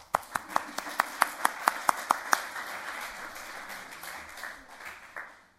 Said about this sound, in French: On les applaudit.